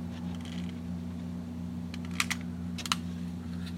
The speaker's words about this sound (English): Then he places some wood in the front and crumples up a few flour bags to start the fire. Light the match now. Paper on fire.